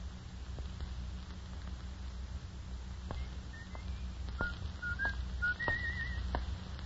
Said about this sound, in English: He was coming down the street. He was whistling as he approached and then suddenly...